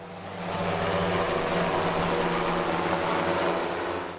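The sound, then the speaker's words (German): A delivery drone flies by with a steady, whirring rotor hum and a low buzzing drone tone. It swells in, holds even for several seconds, then fades, with no voices. “Ganz genau, Lieferung per Drohne nämlich.”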